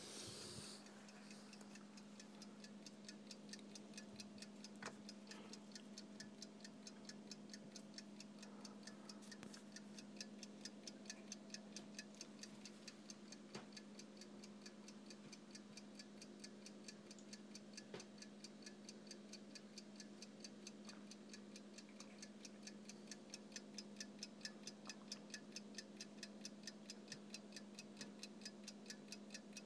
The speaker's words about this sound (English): So I'm just going to let you hear a clock that's actually from my mom's mom, like my grandmother on my mom's side. It's an old clock, so just a wall clock, but it's just ticking. So I'll let you hear that for a little bit.